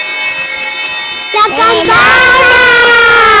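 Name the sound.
school bell ringing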